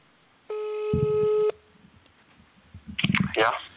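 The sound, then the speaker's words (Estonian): A telephone ringing tone sounds once as a live radio broadcast tries to reach a listener by phone, a steady buzzy electronic tone lasting about a second, followed by quiet line noise and then a brief burst of a voice speaking. “ja me püüame siin praegu saada ka ühe armsa vennaga ühendustelefoni teel ja vaatame, mis see vend ütleb selle peale.”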